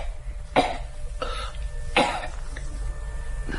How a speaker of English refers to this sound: She talks a lot when she's no coughing.